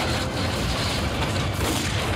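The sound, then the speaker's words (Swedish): Dense, continuous gunfire and booming blasts from a battle scene in a film clip where people, Tommy Körberg among them, run down a hill, a loud, unbroken wall of rumbling explosions and shots with no voices. “Minus skottlossningen.”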